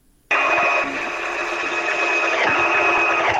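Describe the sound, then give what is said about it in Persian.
A sewing machine in Afghanistan starts up abruptly after a brief silence and runs steadily, a loud, continuous whirring buzz with a faint rapid mechanical rattle and no voices. “در این گزارش که با صدای ماشین خیاطی آغاز میشه”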